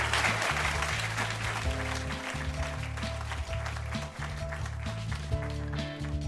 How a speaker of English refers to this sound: Let's have one more round of applause for Tony, and welcome back, Andrea and Eric.